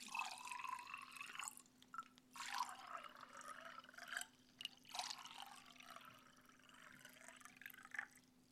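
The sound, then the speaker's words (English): A round of drinks is poured into a glass in several bursts, splashing and trickling with rising tone as it fills, fairly quiet, with small drips between pours and a faint steady hum underneath. “One more round for the road. I'm buying this time. Finally. This is it, guys. I swear it. Just pour it already, would you,”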